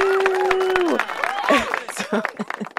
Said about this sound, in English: Insert clap track.